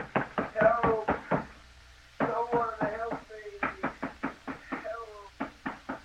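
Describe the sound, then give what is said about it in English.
Fists pound hard and fast on a locked door in repeated bursts of heavy blows, separated by short pauses, while a muffled voice seems to cry out beneath the thumping: a man locked in a room, demanding to be let out. “Let me out of here. I'll break the door down.”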